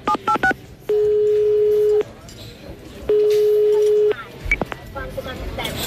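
A quick burst of keypad dialing beeps, then two steady, one-second ringback tones separated by a pause, followed by a few faint clicks and beeps over soft background noise.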